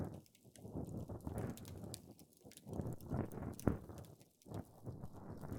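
Crackly scraping and rustling of an ear pick cleaning inside an ear, working in a steady, uneven rhythm with soft bursts and brief pauses, no voice present.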